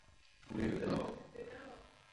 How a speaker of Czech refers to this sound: A ozvali se i psi.